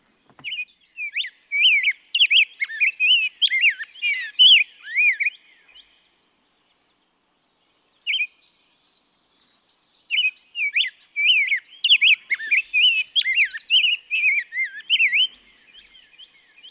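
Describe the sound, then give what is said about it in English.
A rose-breasted grosbeak sings a bright, rapid warbling song of sweet whistled notes in two long bursts separated by a pause with a single note, with no voices. “This is the grosbeak, I believe, the rose-breasted grosbeak.”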